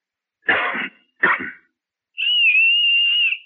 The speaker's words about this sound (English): Look, I'll cough twice, like this. And you whistle back. That way we'll know it's us.